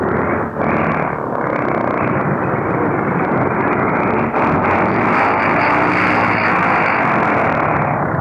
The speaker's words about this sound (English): As she comes in and draws up onto the tarmac, she's swinging round now, her port engine driving her a little quicker, and here she is swinging round right below us now. We hear the roar of our engine.